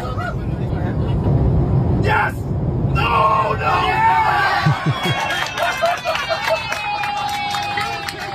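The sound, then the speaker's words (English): A crowd of airplane passengers on a flight about to land cheers and yells after a cabin announcement congratulating the Lions on a win, over a steady low cabin rumble, many voices overlapping in a loud burst of excitement that carries on throughout. “But the Lions did win it, and all the Lion faithful that were on that flight were very, very happy.”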